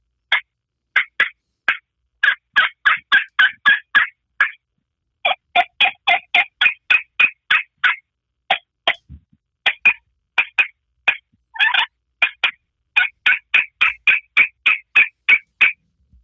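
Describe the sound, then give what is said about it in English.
A glass friction turkey call, heard over a phone, yelping in long, rapid runs of sharp, raspy high notes, broken by brief pauses, with a few lower clucks mixed in and no voices. “This is a glass call.”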